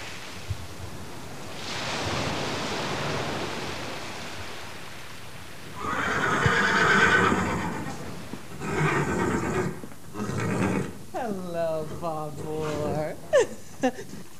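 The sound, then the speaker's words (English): A horse whinnies loudly, a rising then falling neigh with clear harmonic wavering, after a stretch of breathy, surf-like noise and snorting bursts; brief voice sounds appear near the end. “This is the mythical beast, the real mythical beast, most beautiful horse in the world.”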